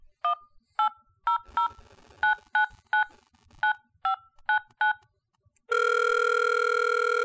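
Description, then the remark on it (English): About a dozen quick touch-tone beeps of the Full Moon Hotline phone number being dialed in an uneven rhythm, then a loud, steady electronic ringing tone that sustains to the end. “And we found a Full Moon Hotline, and we're going to call it.”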